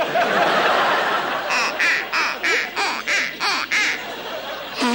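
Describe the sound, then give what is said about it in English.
A wooden duck call gives a rapid series of about eight nasal quacks in an even rhythm, loud, after a burst of noisy, laughter-like sound at the start. “You just told the ducks never to come back because this marsh is going condo.”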